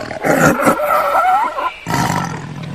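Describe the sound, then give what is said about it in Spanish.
A lion roars loudly, a long rumbling, rasping roar that breaks off briefly and then resumes with a second burst. No one speaks. “Había una vez un zorro llamado Pepito, un león llamado Leonardo y una loba llamada Lola.”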